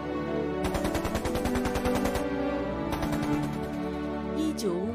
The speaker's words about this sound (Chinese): 1951年，剿匪的枪声还在响